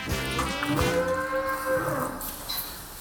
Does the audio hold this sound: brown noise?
no